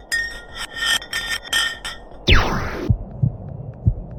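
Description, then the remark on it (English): An ice block dropped down a deep borehole makes a run of bright, ringing, laser-like pulses, then a steep downward-sweeping whistle, ending in soft, low, heartbeat-like thuds. “The pitches changed over the quick descent of the block of ice, ranging from high pitch and ending with a low heartbeat-like sound.”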